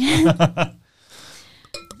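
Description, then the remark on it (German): A voice speaks briefly, then wine pours into a glass during a wine tasting with a soft, steady splashing hiss for under a second before talking starts again. “Darf ich ihn einschenken?”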